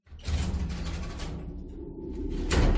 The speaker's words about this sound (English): It was almost like a heavy door thumping closed in a doorway. It was a little creepy sounding, especially with there being no other sounds in the entire building.